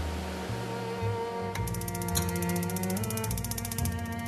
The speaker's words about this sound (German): Heizungsgeräusche wie diese gibt es nur in Berliner Zimmern.